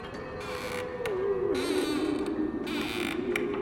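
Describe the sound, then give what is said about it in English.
A long, drawn-out wooden creak and groan of an old ship's hull straining, bending slowly in pitch, with soft rushing bursts behind it and no voices. “As we leave this floating city of ghosts, remember that on the Queen Mary, every creak and groan could be more than just the scuttling of an old ship.”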